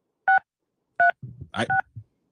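A caller keys in on a telephone keypad during the live radio call-in show Pocket Watching with JT: four short, bright dual-pitch beeps at uneven intervals, with a stretch of muffled rustling and handling noise between the later presses.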